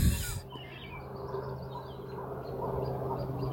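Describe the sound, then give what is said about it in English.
Several short whistling calls from a wigeon-like duck ring out over a steady low hum of outdoor background noise, with no one speaking. “And there's that bird that I wanted to know. I feel like maybe it's a widgeon.”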